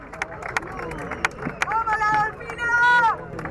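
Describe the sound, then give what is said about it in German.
A large crowd of about 15,000 spectators in the stands at the polo field in Palermo, Buenos Aires, cheers on La Dolfina and La Irenita at the 2019 Argentine Open Polo Championship, murmuring and shouting steadily, with scattered sharp knocks and two drawn-out, rising cheers carrying over the din. “Rund 15.000 Zuschauer feuern auf den Tribünen ihre Teams an.”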